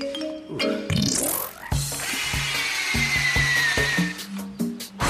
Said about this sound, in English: First, I make hole in tree where hook go. Tarzan like cordless drill. Come in handy when no plug in forest.